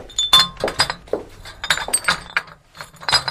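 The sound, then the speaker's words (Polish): Old swing-top glass bottles with ceramic stoppers and rubber seals clink and knock together in a quick, irregular series of bright, ringing taps, some with short high-pitched resonances, with no voices. “Stare butelki, takie zamykane ceramicznym zamknięciem z gumką.”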